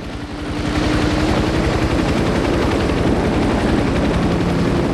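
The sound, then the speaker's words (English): Loud helicopter rotors thump in a rapid steady rhythm over a roaring engine whine, swelling in the first second as they spin up while pilots take off, with no voices. “Pilots get into their helicopters and take off.”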